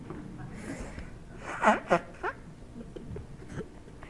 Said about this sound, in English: I have to blow my nose, sorry.